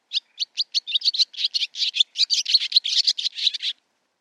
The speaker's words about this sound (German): Die Rauchschwalbe.